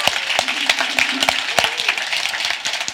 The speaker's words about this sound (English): Keep our clapping going. I love it.